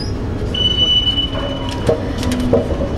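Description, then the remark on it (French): An underground metro train rumbles through Charles de Gaulle–Étoile station at 8:30 in the morning, its wheels letting out long, thin metallic squeals over a steady low roar, with a few sharp clanks near the end. “Tout le monde descend vers le RER.”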